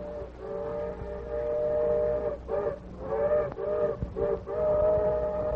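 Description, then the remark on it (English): A steam train's whistle sounds in the distance, a long chord-like blast followed by several shorter toots, with the low rumble of the train underneath and no voices. “The Lone Ranger heard the engine's whistle in the distance”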